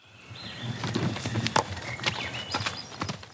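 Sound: horse hooves clip-clopping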